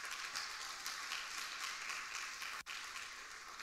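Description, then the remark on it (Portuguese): An audience applauds Jesus during a sermon, a dense, even wash of many hands clapping together that holds its level throughout, with one brief break near the end before it resumes. No one speaks. “Pega esse princípio e aplauda Jesus porque ele é digno.”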